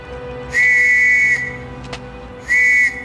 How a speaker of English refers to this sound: A boy standing on a balcony blows a whistle.